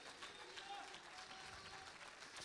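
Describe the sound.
An audience claps its hands to magnify God in a dense, steady wash of applause, loud and continuous for the whole stretch, with a few faint voices mixed into the crowd noise.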